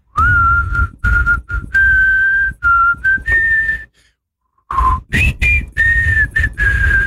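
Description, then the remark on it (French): A person whistles a catchy pop hit melody for listeners to guess the title or artist, in short phrased notes with a brief pause midway before the tune resumes, a little breathy and uneven. “Vous allez nous donner le titre ou l'artiste de ce tube sifflé.”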